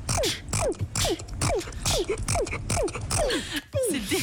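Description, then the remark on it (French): A rapid run of about eight odd, squeaky sneezes from an American woman who sneezes 20 times a minute, each a short falling whistle-like note over a breathy burst, repeating in a steady, almost rhythmic pattern roughly twice per second. “Et en plus elle a un bruit bien particulier quand elle éternue.”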